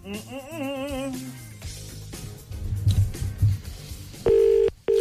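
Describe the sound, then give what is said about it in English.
A brief musical swell and some low rumbling give way to a single loud, steady ring of an outgoing phone call from a Today FM radio show to a Waterford number near the end, with no talking. “It's ringing.”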